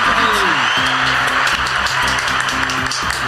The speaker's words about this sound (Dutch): Ja, je mag applaus doen. Maar ik heb hier ergens applaus bij. Ik moet altijd even zoeken welke het is.